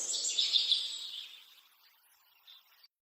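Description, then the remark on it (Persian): High, bright bird chirps cluster in the first second and fade, with one more short chirp near the end, all set against a soft hissing outdoor background beside a river, with a breeze blowing. “صدای پرنده ها میرسه به گوشم.”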